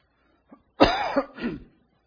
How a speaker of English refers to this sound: I'm going to have trouble coughing tonight, I can tell it.